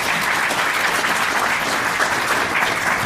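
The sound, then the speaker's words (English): A crowd applauds Warwick Holmes of Sydney University for about three seconds, a dense, even patter of many hands clapping at once, loud, with no talking over it. “A round of applause for Warwick.”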